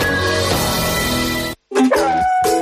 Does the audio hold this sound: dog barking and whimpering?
yes